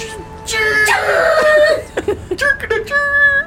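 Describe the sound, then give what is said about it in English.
A voice imitates a monster's crowing cry, a loud, strained, rooster-like screech with wavering, sliding pitch, breaking into choppy squawks before one last drawn-out wail. “That sounded a little like a rooster.”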